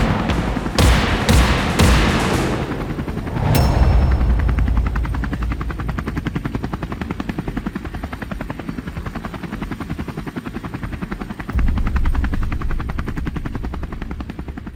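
helicopter rotor flying overhead

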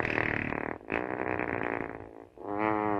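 fart

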